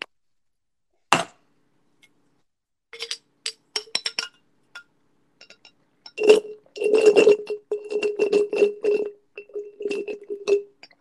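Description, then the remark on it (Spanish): A glass clinks and taps several times, followed by a series of rapid, gurgling gulps and small clinks as someone drinks water. No talking; the sounds are fairly crisp and irregular. “Voy a beber un poquito de agua porque estoy un poquito seca.”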